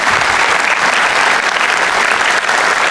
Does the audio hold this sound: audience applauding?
yes